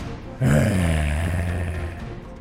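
A real bear comes running out of the forest, its roar bursting in suddenly and loud, a deep, rumbling, growling bellow that holds for about two seconds before easing off slightly, with no talking over it.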